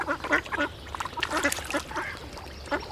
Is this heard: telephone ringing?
no